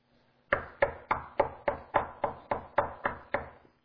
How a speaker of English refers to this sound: He says, "Behold, I stand at the door and knock." Is He knocking on your heart's door tonight?